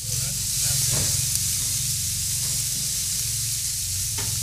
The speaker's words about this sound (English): Ooh, I can hear sizzling. So it might have a bit of barbecue flavor. That looks good. Ooh, sizzle, sizzle. Very nice. T-bones, my favorite cut.